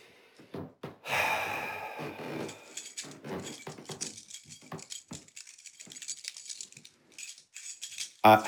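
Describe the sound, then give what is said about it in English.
Keys jiggling in a steady, restless jangle of light metallic clinks and rattles, with a few louder bursts near the start and end and no talking. “I'm sorry, I'm just jiggling my keys.”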